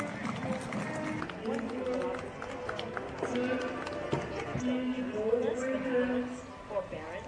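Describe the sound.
Horses' hooves clip-clop on pavement in a steady stream of overlapping beats as Mexican cowboys give a horsemanship performance in a parade in the United States, mixed with crowd chatter and voices talking throughout.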